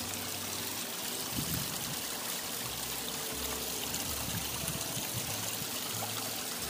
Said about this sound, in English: I'm going to take you outside on my deck when I go outside, where I have my waterfall. Listen, see if the mic picks up the waterfall.